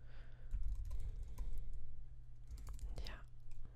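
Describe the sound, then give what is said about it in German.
Typing code on a computer keyboard: quick, irregular bursts of sharp key clicks over a steady low electrical hum, with no one talking. “So, richtig tippen ist hilfreich.”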